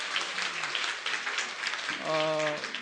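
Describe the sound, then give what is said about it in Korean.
A church audience claps in a steady, dense patter for a few seconds after a recitation of John 3:16, and a voice speaks briefly over the applause near the end. “뭐 박수 받으려고 한 건 아닌데.”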